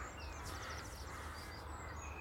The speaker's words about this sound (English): But at Mail, outside Belcoo, there's a lay-by. And when the wind is favouring you, you can hear the crows very plain from the island.